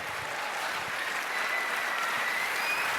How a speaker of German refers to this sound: Einen großen Applaus